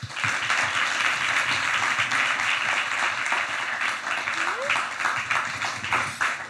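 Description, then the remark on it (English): A crowd applauds steadily for several seconds as London's Deputy Mayor for Communities and Social Justice, Dr. Debbie Weeks-Bernard, is introduced: a dense, loud wash of clapping with a brief rising whistle or cheer partway through. “Can I have a huge round of applause for Deputy Mayor for Communities and Social Justice, Dr.”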